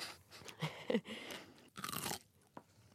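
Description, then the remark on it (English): Crisp crunching from someone at home biting into a pickle, several wet snaps and chews in quick succession, with no talking. “It's a pickle.”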